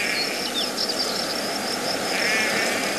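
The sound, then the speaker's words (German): Quiet rural ambience at the Distelhummelhof farm outside Leibertingen, Baden-Württemberg, on the southern edge of the Swabian Alb, where animals do the work: a steady bed of hiss with a thin, continuous high buzz and scattered soft bird chirps and trills, no voices, traffic or machines. “So wunderbar hört es sich auf dem Distelhummelhof an.”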